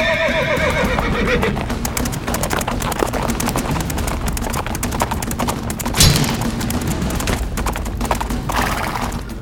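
A horse whinnies loudly at the start, followed by a rapid, dense drumming of galloping hooves as two mounted knights with spears charge toward each other, with a sharp heavy impact near the middle. No voices.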